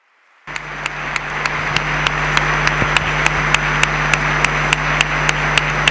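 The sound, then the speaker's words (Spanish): A sustained wash of crowd applause, a long ovation for Cardinal Ricardo Blázquez Pérez at the end of his 2015 Holy Week proclamation, bursts in after a moment of silence and keeps going steadily, with sharper claps ticking through it at an even, quick rhythm. “Larga, larga ovación la que recibe el cardenal don Ricardo Blázquez Pérez a la conclusión de este pregón de la Semana Santa de este 2015.”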